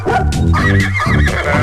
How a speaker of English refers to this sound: Oh, look at all the animals. There's the horsey.